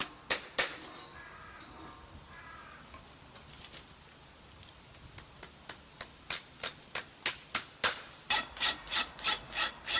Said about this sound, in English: Finally, the farrier uses a rasp, which is a large file, to smooth the edge where it meets the shoe and eliminate any sharp edges.